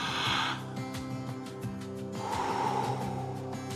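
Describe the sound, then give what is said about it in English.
A slow, deliberate breath in and then out during a deep breathing exercise, airy, drawn over soft sustained background music with no talking. “So let's get our breathing started to get the separation from the world's noise to the quietude of God.”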